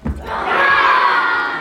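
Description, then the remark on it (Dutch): A group of dressed-up children, marching as a small army through a museum, yells the battle cry "Shield wall" in unison, one loud, sustained collective shout lasting over a second, preceded by a brief low thump. “En dan mochten ze ook iets roepen, namelijk de voorman mocht roepen.”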